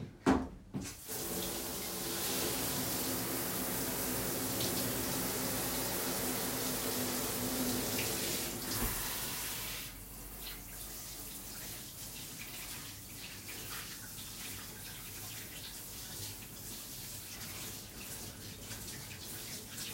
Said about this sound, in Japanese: シャワーで足だけ洗って。